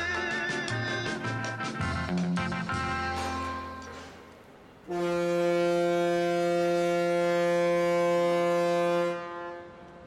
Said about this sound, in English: I'm on the dockside at Tilbury, about 40 kilometres east of the centre of London on the banks of the River Thames. Tilbury is the main port serving the British capital and also the whole southeast of England.